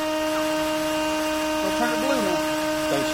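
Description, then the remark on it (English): A steady, droning machine whine from a bus mechanic sharpening drill bits on a bench in a school bus transportation shop runs unbroken throughout, loud, with faint indistinct voices surfacing briefly in the background. “He's sitting on a bench in the Durham School's transportation shop, sharpening drill bits.”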